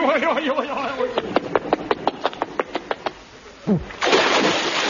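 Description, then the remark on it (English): A run of quick, evenly spaced taps, then a falling whistle ends in a loud, rushing splash as a man lands in the sea, in a cartoonish sound-effect style. “He landed right in the sea.”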